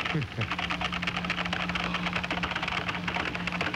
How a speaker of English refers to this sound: Golly. Well, man, that's just way too much typing. Hold on, I'm on the wrong screen.